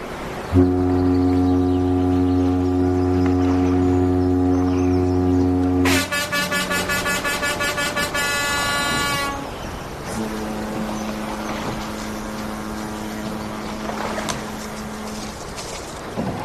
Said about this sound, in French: Au son des cornes de brume des bateaux qui me souhaitent bon voyage, je me dégage du quai.